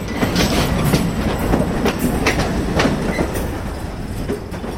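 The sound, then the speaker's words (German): A freight train rolls steadily along the rails at the Limmental marshalling yard in Switzerland, its wheels clicking and clattering in a continuous rhythm, loud, with a rumbling low undertone and no voices. “prüft das letzte Mal die Bremsen und macht den Zug fertig, damit er weiterfahren kann”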